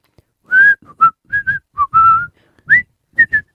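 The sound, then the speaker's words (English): A person whistles a short melody made up on the spot, about ten clear, bright notes with brief gaps, some sliding in pitch, with no talking. “How good can you whistle?”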